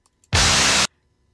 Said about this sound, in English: It sounds like it could be the beginning of …, but it is so much static.